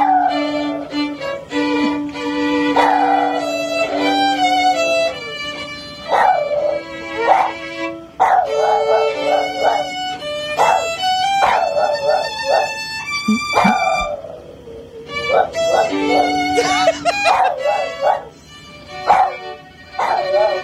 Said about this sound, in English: This is a Boston Terrier singing the national anthem with his owner. The owner is playing the violin.